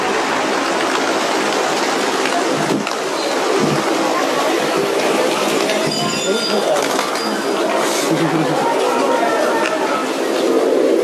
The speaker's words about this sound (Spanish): Sonido dentro del Templo de las Palomas en Katmandú, Nepal.